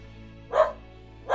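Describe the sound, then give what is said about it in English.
Two sharp dog barks ring out about a second apart, fairly loud, over a quiet low background hum. “This dog.”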